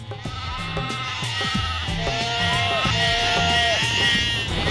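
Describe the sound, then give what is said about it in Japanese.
Several sheep bleat repeatedly in wavering, overlapping cries, fairly loud throughout, with a busy, noisy background behind them. “羊、この人の喉を噛んではいけないっす。 今度は 羊が。”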